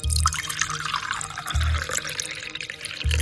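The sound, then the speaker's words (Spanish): Water pours steadily as a nurse pours it into an old man's throat, a bright splashing, gurgling stream with soft low thumps recurring about every second and a half. Nobody speaks. “Sin mediar muchas palabras, abrió la boca del anciano, le bajó la lengua con un bolígrafo y vertió agua en su garganta.”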